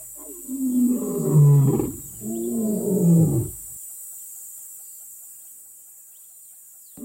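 A lion lets out two deep, rumbling roars in quick succession, each swelling and then fading, followed by several seconds of near silence.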